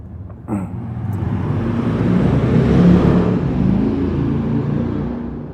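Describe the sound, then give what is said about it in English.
A loud, unmuffled motorbike engine roars nearby, its harsh rumble swelling to a peak midway as it passes, then carrying on strongly to the end. “Noisy motorbike. He could repair his silencer, maybe took it off.”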